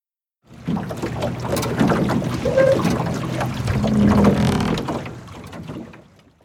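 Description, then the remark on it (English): A wooden rowboat creaks and groans as it is rowed through water between the ice and the land, ferrying people, with a couple of drawn-out creaks over a steady wash of splashing and rushing water, fairly loud. “The boat went between the ice and the land 2 more times. Each time it creaked more loudly.”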